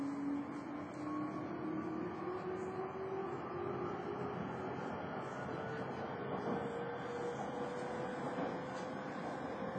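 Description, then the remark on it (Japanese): A Japanese train departs a station platform with doors closing, next stop Kaihin-Makuhari; its motor whine rises steadily in pitch over a constant loud rumble of wheels and rail noise, with no pauses. “番線に列車が発車します。ドアが閉まりますからご注意ください。”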